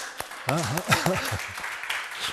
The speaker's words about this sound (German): Lass uns mal für die Frau Doktor klatschen.